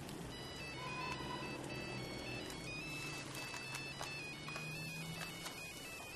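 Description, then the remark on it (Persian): A mobile phone ringtone plays a bright, looping electronic melody of high stepping tones, ringing steadily throughout over a noisy, busy background with no talking. “حاج آقا موبایل بیرون.”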